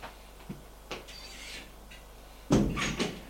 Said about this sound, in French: Et va à la porte du bureau de son père. Frappe.